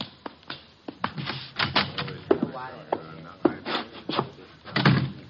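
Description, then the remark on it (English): A door is opened, with a run of sharp wooden clicks and knocks from the latch and handling, a brief creak midway, and soft bumps and shuffling continuing afterward. “The door, Chuck.”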